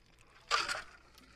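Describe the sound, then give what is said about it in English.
A quick sip from a glass, ice cubes rattling and clinking against the sides in one short burst, with no talking around it. “I hate when the ice cube gets in the way.”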